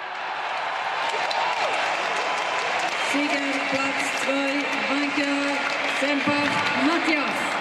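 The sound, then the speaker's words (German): A large crowd at a Swiss wrestling (Schwingen) festival in late summer 2013 cheers and applauds loudly and continuously as wrestlers grapple in sawdust, a dense roar of clapping and voices, with a sustained wavering tone rising above the din partway through. “Die ganze Schweiz fieberte mit, als sich die Bösen wieder im Sägemehl wälzten. Das Publikum war außer sich.”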